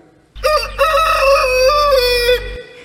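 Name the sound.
rooster crowing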